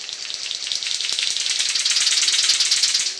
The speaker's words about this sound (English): Birds like this King of Saxony bird of paradise.